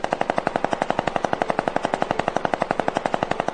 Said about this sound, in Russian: Волк взял АКР и начал стрелять.